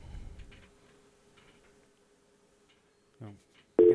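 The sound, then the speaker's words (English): A faint, steady telephone tone hums on a quiet line after a caller to the live show GeekSpeak hangs up, then a short, loud beep of busy signal cuts in at the very end. “They hung up. Nobody there.”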